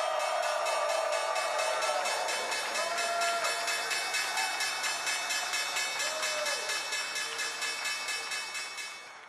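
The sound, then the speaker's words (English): A stock exchange opening bell, rung for Energy Vault as the company debuts on a Monday morning, rings continuously in a rapid, steady metallic rattle for about nine seconds, loud throughout with a busy crowd clamor underneath, easing slightly at the end. “Energy Vault reading the opening bell as that company debuts on this Monday morning.”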